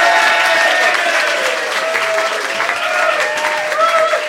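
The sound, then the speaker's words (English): A Soho Theatre audience applauds loudly and steadily for several seconds to vote for Romesh and Ben's side in a comedy show debate, a dense wash of clapping hands with a few whistles rising above it. “If you think Romesh and Ben, and therefore Bill, is in the right, applaud now.”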